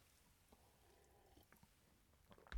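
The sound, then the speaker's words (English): A quiet sip from a drink: faint wet mouth clicks and a soft slurp, then a short louder swallow or cup sound at the end, with no talking. “Sorry, I need a sip.”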